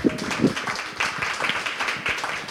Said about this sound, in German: wir können auch mal in Geiste klatschen. Ja.